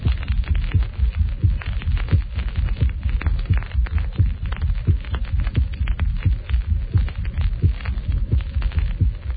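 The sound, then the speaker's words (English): Heart sounds in a gallop rhythm, as heard in heart failure or severe myocardial damage: dull, low thumps repeating steadily in quick groups of three, with an early diastolic third heart sound and a poor first heart sound, and a high-pitched systolic murmur washing between the beats. No voices. “In heart conditions associated with failure or severe myocardial damage, three distinct sounds may be heard, which simulate the rhythm or gallop of a horse.”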